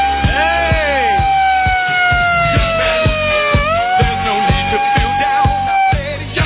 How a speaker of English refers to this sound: No, it's just we're in best of, and I like to use this week to test the equipment. And I was testing the siren to see if it worked. That's good. Is it working? The siren is working.